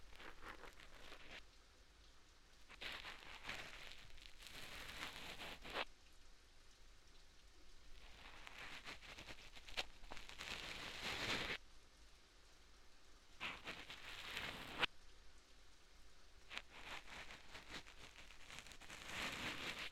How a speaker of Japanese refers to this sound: それにしても、止みませんね、雨。